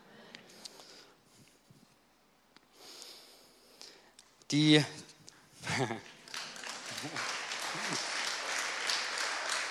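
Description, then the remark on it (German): An audience breaks into applause that swells and holds steady through the second half, preceded by scattered voices and a loud vocal outburst. “Ich hätte es auch geklatscht, muss ich sagen.”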